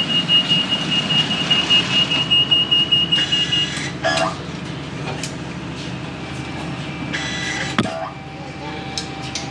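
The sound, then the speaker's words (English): Steady high-pitched warning beeps sound over the low rumble of a train carriage whose next stop is Ovingham, then express to Adelaide, followed by bursts of hissing and clunking as the doors shut, with faint background voices. “Doors closing.”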